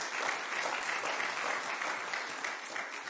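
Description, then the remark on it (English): A large church audience applauds in appreciation of the parking lot volunteers, many hands clapping together in a dense, steady wash of sound that holds evenly for a few seconds without any voices. “Our parking lot guys really deserve a round of applause and an expression of appreciation today.”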